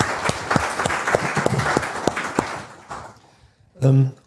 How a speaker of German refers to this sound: Also vielleicht mal einen kleinen Applaus für die Kollegin, die das hier so gemacht hat.